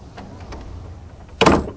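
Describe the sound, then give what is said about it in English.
A storm porch door swings shut in the dark with a single solid thud near the end, after a quiet stretch of low, dull background rumble and faint creaks. No one speaks. “I closed the storm porch door behind me, felt for the back door in the dark, found it.”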